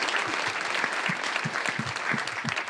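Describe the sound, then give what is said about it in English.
Steady audience applause, many hands clapping in a dense, continuous patter at a fairly loud, even level, with no voices standing out above it, given for the host's producer. “Give her a big round of applause, ladies and gentlemen.”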